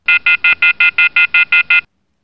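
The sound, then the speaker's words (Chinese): The alarm of an electronic masturbation cup beeps ten times in a quick, even rhythm, each short, loud, high-pitched tone identical, followed by silence. No one speaks. “哦，是飞机杯的警报声呀。”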